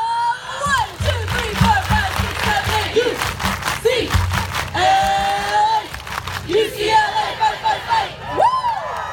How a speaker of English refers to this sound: I grew up knowing the eight clap.